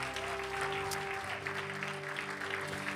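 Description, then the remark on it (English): An audience claps steadily together in praise of God, a dense wash of many hands applauding for the full stretch, with a sustained low organ-like tone humming beneath. “Give God a hand clap of praise in this place.”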